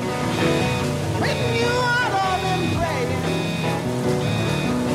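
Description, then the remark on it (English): Fire sprinklers spray water in the impressionist wing in a steady, dense hiss that holds loud and unbroken throughout, with sustained tonal music and a few sliding pitches layered over it. “Fire sprinklers spray.”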